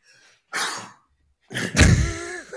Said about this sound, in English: because I'm about to sneeze.